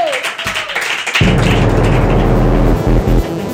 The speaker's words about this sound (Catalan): En fi, fort aplaudiment per Arnold Schwarzenegger, que entra al búnquer!